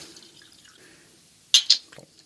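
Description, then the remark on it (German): Wine is poured into a glass in a studio: it splashes in two quick, bright bursts followed by a softer trickle, with only a faint low background hum around it and no talking. “Schenk doch nochmal nach.”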